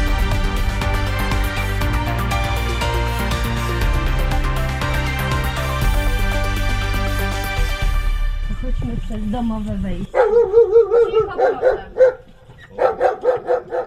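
A dog at a house on the edge of Zakopane, where the town meets the Tatra National Park, barks in a quick series of loud barks with short pauses between them. Before the barking, music plays and then fades out.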